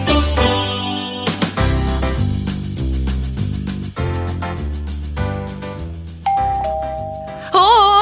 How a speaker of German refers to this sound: Klingelt. Leute, unser erster Gruselbesuch steht vor der Tür.